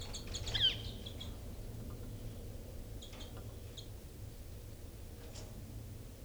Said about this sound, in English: So recording now birds 318 and 298.